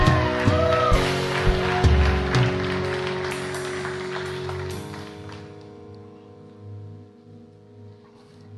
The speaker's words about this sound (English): Come on, somebody. Come on, somebody. Let's give the Lord a clap and a shout in this place.